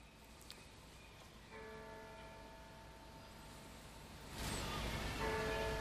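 church bells ringing

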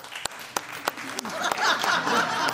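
sparse clapping

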